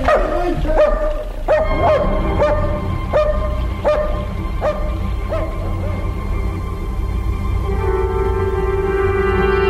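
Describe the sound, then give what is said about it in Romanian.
A dog named Lupu barks, about seven sharp barks in a fairly steady rhythm over a low rumbling background, then gives way to a thin, drawn-out whine. “Și îți spun și dumitale și domnului Toma să țineți taină despre găsirea acestui câine.”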